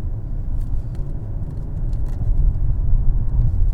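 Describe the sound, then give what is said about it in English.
A Chrysler Crossfire's engine drones with a steady, low rumble that swells a little louder toward the end as the car takes corners on winding roads, with no one speaking and no other distinct sounds. “So I was driving peacefully along the river when a Crossfire passed me, and then we hit some windy roads, so we had to drive like maniacs, and it was fun watching that Crossfire negotiate the corners.”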